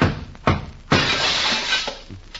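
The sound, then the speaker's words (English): A glass perfume bottle smashes: a few sharp knocks lead into a bright, crashing shatter, followed by scattered tinkling shards settling. No voices are heard. “I got a bottle of perfume for my gal.”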